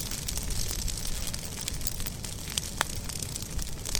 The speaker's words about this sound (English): Fire crackles in a controlled burn on Archbold land. Out on a scrub tour with Dr. Swain and the Florida Wildlife Corridor expedition team, we see smoke plumes from the fire off in the distance.